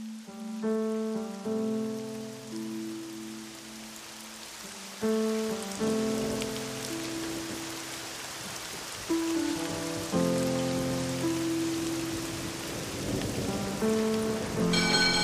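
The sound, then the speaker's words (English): A steady wash of rain patters on a hard surface throughout, with sustained musical notes playing over it and a rumble building near the end; no one speaks. “It has started to rain.”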